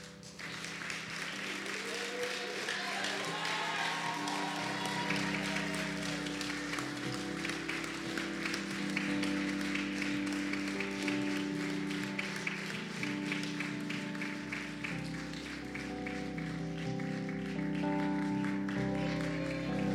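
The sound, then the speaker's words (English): A large crowd claps and cheers continuously for the full twenty seconds to show honor, loud, with scattered whoops early on and a steady musical tone sustained underneath. “But as much as you love, whatever you want to say, whatever you want to yell, if you want to clap, whatever you want to do, however you show honor, but I want you to show honor from your heart.”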